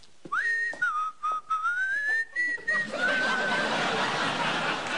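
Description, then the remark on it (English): Someone whistles a short, lilting tune of sliding notes, the tune Dixie, for about three seconds, then a wash of laughter and crowd noise rises and carries the fading whistle. “I wouldn't date you if you whistled Dixie.”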